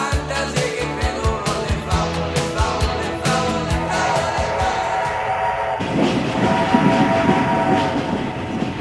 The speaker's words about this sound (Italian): Adesso però arriva un treno.